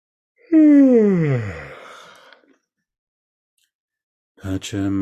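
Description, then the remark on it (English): A single long, loud yawn, its voiced pitch sliding downward before fading into a breathy exhale; after a short pause, someone starts talking. “After I yawn.”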